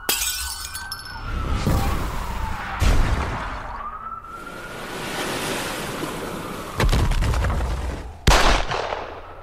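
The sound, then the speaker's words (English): Several loud, sharp gunshots ring out at irregular intervals over a constant rushing roar, with a high whistling tone sweeping in the background; no one speaks. “Gunfire was quick to follow, but didn't last long.”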